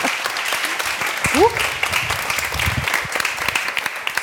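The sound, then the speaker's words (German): An audience applauds steadily throughout, a dense wash of many hands clapping, with a brief rising voice or whoop cutting through near the start. “Und unter Applaus gehen wir natürlich also noch unter mal Applaus, ja, wunderbar.”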